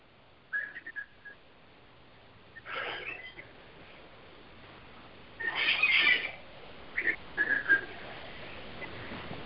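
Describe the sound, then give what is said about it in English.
Birds sing all around in the morning, with scattered bursts of high chirping and whistled calls separated by pauses, fairly faint over a steady background hiss. No one speaks. “Those are your birds? Yeah, they're all around, all waking up and saying good morning.”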